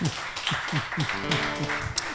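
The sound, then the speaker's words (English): A light smattering of applause after a worship song: a few people clapping in a loose, fairly steady rhythm, moderately loud, with faint voices murmuring underneath toward the end. “I appreciate that smattering of applause.”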